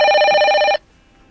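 A bright, steady electronic bell rings as the cue to start talking, continuously for under a second, with strong high harmonic tones, then cuts off abruptly into near silence. No one speaks.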